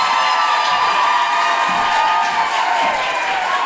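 An American audience cheers loudly with whoops and shouts over steady, dense clapping to welcome Deborah Francis White, a continuous roar of excitement that holds at full volume without letting up.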